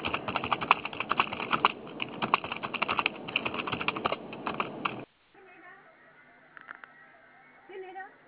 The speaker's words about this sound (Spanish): No, no contesta, todavía están tecleando una máquina.